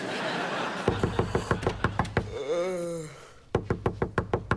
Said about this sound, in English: Someone's knocking at the door.